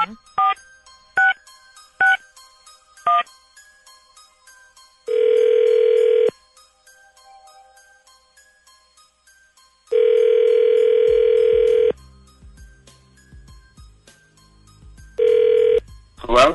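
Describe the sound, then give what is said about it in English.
A handful of quick touch-tone dialing beeps as a phone call is placed, followed by three long, steady ringback tones spaced several seconds apart, clear and fairly loud, with faint low rumbling near the end. “and then what we'll do is we're going to need that list and his phone number, and we'll call him when we come back, okay?”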